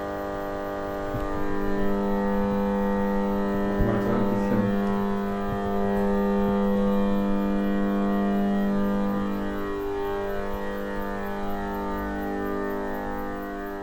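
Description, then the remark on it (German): A steady, unbroken electrical hum from a transformer, a low buzzing drone with layered harmonic overtones that holds at an even level throughout, with a few faint clicks around the middle. “Was da im Transformatorraum so fröhlich bedrohlich summt, ist die Resonanz der 50 Hertz Wechselspannung.”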